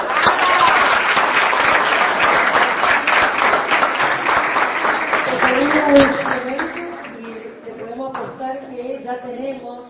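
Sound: audience applause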